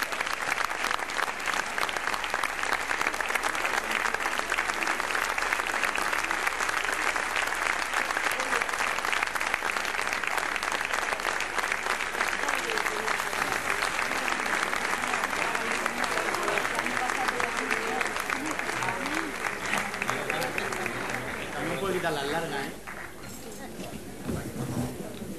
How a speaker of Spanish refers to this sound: Y si están aquí ya, que los veo tras la cortina, pues que vayan apareciendo estos amigos ya de la tuna de Totana con ese aplauso y enseguida nos vemos para dar más recuerdos. La tuna de Totana.